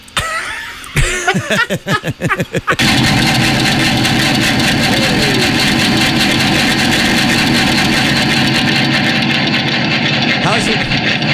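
A few short chugging bursts give way to the steady, loud rumble of a locomotive engine idling, droning on evenly with no other sounds.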